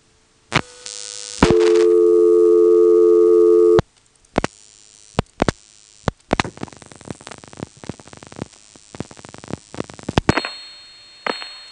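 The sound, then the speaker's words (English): An old telephone call placed over an open-wire 3700 carrier system: a steady line tone for a couple of seconds, sharp switching clicks, then a crackly, hissing connection ending in a thin tone, with no voices. “So as I said, this type of carrier had a very distinctive sound, and here's another call. Again, that goes over this open wire 3700 carrier.”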